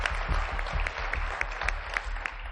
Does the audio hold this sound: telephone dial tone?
no